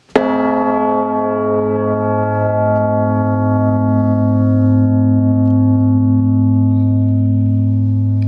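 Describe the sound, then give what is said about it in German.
A single deep strike of a newly cast bell, set going by its clapper, rings out, then its rich, layered tones of fifths, thirds and primes hum on steadily for several seconds, the low partials staying loud and sustained with no voices. “Man merkt, wie die Quinten, Terzen, Primen und so weiter sich in dieser Glocke entfalten.”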